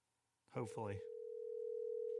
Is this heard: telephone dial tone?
yes